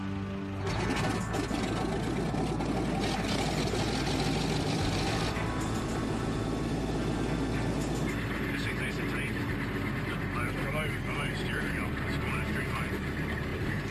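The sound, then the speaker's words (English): The engines of a CL215 aircraft, taken outside to be test-run after repairs, run loud and steady, a dense continuous roar with a droning low hum, shifting slightly in tone partway through, with indistinct voices beneath. “They head out to the runway where they can fire up at full power.”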